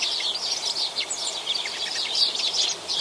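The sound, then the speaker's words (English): A dense chorus of sparrows chirping continuously at a bird bath, many small birds twittering at once, a busy overlapping chatter of short high calls with no voices present. “Yes, if you've got a bird bath at your place or there's one in the park you'd like to visit, have you noticed if there are certain bird species that dominate it? In this case, it's sparrows, I think.”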